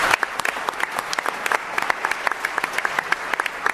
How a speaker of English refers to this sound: So actually, I think that deserves a round of applause. That's amazing.